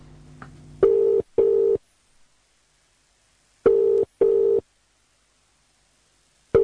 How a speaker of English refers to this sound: I'm just going to dial a random number. So, here we go. Just grab the phone. Okay, the number's in. So, let's get dialing.